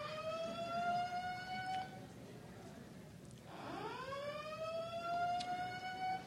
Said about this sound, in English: This is the first time that the siren went off when I said that.